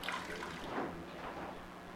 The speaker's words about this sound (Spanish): I need to put a little water here. Esta es agua. Se mira insignificante. No hace ningún daño.